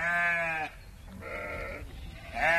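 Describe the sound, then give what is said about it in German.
Sheep bleating: three wavering bleats in quick succession, the first and last loud and strained, the middle one softer, with no talking. “Damals muhte und mähte es noch an allen Ecken.”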